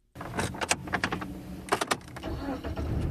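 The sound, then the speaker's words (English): A few sharp clunks and rattles, like a car door and keys, then a car engine starts up and settles into a steady rumble as someone drives north of the Washington Beltway. No one speaks. “I hop in the car and drive north of the Washington Beltway in search of hot air from the real world.”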